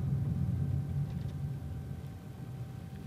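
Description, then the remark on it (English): A steady low rumble of a car cabin while driving toward a stoplight, constant and moderately loud, with faint hum tones above and no one speaking. “As we are coming closer to the exact location of the abduction, the atmosphere in the car gets tenser. We're approaching it soon at the stoplight.”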